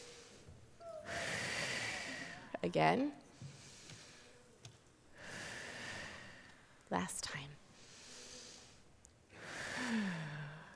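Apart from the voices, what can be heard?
group taking deep breaths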